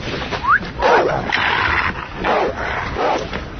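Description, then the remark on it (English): A dog barks aggressively in a rapid string of four or five harsh, loud barks, with no one speaking. “Hey, man, you got a rabid dog back here.”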